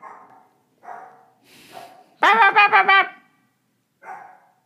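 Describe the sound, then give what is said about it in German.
Dogs bark in a sudden loud, rapid burst of about four barks, with a few softer, fainter yips or sounds before and after. “Das hat die anderen Hunde gehört.”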